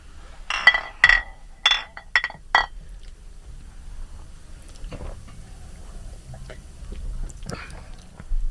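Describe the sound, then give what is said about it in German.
Beer glasses clink together in a toast at a Bavarian-Cologne regulars' table at the Paulaner im Tal on a Tuesday evening, five or six bright, ringing taps in quick succession, then settling into a quiet, low background murmur. “Und den läuten wir natürlich so ein, wie es sein muss, ein herzliches Prost auf diese Runde.”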